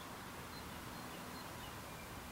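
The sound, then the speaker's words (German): Soft, steady wind sweeps through fields of oats and triticale, a cross of winter wheat and rye, at the edge of Predikow in Brandenburg, making a continuous, even rustling hiss with no talking and no breaks. “So klingt es, wenn am Ortsrand von Predikow der Wind weht, durch Hafer oder Tritikale, eine Kreuzung aus Winterweizen und Roggen.”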